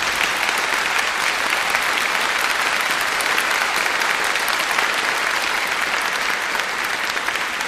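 At a singing group's 34th recital, a large audience claps for the pianist, a dense, continuous crackle of many hands, steady and loud, that holds an even level throughout with no voices.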